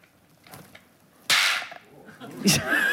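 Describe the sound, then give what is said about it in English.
A donkey jawbone, the jaw of a donkey held in the hand and played as a percussion instrument, is struck twice, each hit a sharp, bright crack followed by a buzzing, rattling decay, the first louder and longer, with a few faint clicks before it. “Wenn Sie das hören, dann spielt Raya Knight den Donkey Jaw.”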